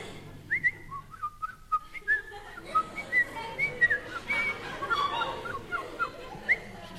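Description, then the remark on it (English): A person whistles a bird-like song, a series of short, bright chirps and warbling phrases with quick pitch slides, imitating a thrush sitting on a nettle, over faint background noise. “That was a thrush sitting on a nettle.”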